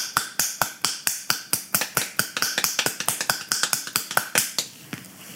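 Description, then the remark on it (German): A steady run of about two dozen quick, crisp hand claps, made as an exercise with the forearms and hands held touching in front of the body, at an even brisk rhythm with no talking, ending with a faint trailing rustle. “Und jetzt klatschen wir einfach mal in dieser Position in die Hände.”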